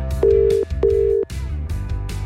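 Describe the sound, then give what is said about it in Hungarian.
Two steady electronic ringback tones, each about half a second long with a short gap between, sound over a low background hum and some music, moderately loud, as a radio presenter phones a listener live on air. “Ha valakinek szeretnél meglepetést okozni a rádióban, egy igazi, hatalmas meglepetést, akkor add meg a telefonszámát, én pedig felhívom őt.”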